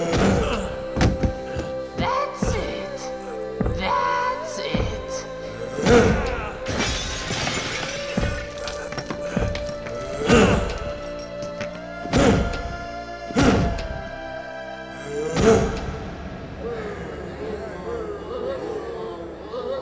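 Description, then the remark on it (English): A run of heavy, irregular thuds and crashing impacts, some with shattering debris, as a big hammer strikes hard at Batman over about twenty seconds amid clattering and a steady tonal hum. “I want you to finish this hero with your big hammer.”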